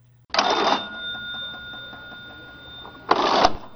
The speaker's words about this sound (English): Those that said old-fashioned cash register, give yourselves a pat on the back, you're right.